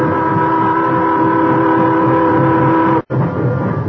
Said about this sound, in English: When the time came, he went aboard with the others, and the train started.